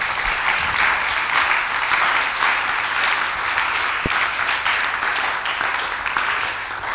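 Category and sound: crowd, audience clapping and applauding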